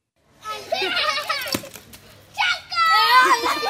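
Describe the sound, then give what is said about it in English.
Boys playing cricket, sloshing through puddles in a riverbed strewn with plastic bags and chickens in Sayedpur, a village near Islamabad, Pakistan; their high excited shouts and calls rise and fall, with a single sharp crack partway through like a bat striking the ball. “Boys play cricket, sloshing through stinky puddles.”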